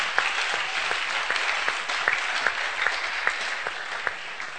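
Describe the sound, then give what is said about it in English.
An audience bursts into steady applause, many hands clapping at once in a dense, continuous patter that holds fairly loud and even throughout, with no voices rising above it. “Oh, you want to clap? Oh, dear, clap.”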